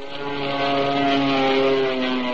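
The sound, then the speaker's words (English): A propeller airplane drones steadily overhead, its engine hum loud and continuous with layered harmonic tones and a broad whooshing wash, no voices present. “2 days later, we were soaring in the sky.”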